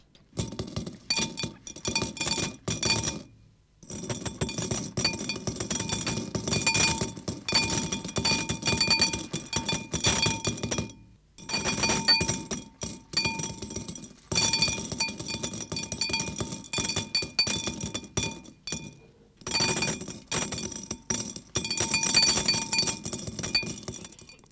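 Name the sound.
coins clinking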